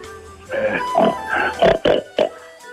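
pig oinking

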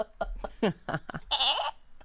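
goat bleating

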